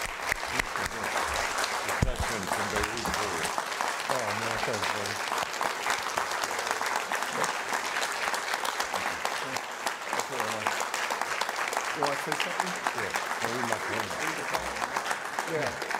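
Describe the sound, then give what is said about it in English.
Sustained audience applause after a tribute on a day of remembrance of the Beirut Barracks bombing fills the whole stretch, a dense, steady wash of many hands clapping at an even, fairly loud level, with faint crowd voices mixed in underneath. “You know, for some things, you let the applause play.”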